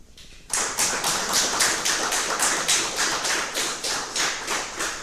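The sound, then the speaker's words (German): After a brief quiet moment, a conference audience at GPN 18 breaks into loud, dense applause to welcome a speaker before a talk on channelizing methods in GNU Radio; the applause holds steady to the end, with a faint regular pulse running through the clapping. “Einen großen Applaus erstmal.”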